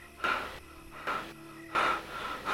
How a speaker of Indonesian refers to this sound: Dia semakin mempercepat kecepatannya dan kamu juga semakin cepat berlari hingga akhirnya orang tersebut tersudut di sebuah pohon besar. Dia menempelkan punggungnya ke pohon tersebut, nafasnya terengah-engah.